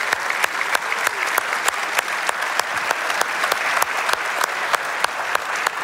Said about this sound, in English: Moms, would you stand? Would you do that all over in all of our campuses? And Fairhaven, let's give them a massive, massive round of applause. Wow.